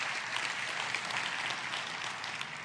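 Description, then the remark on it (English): An audience applauds steadily, giving God a hand clap: a dense wash of many hands clapping at an even level throughout, with no voices standing out. “Come on, can you give God a hand clap for that?”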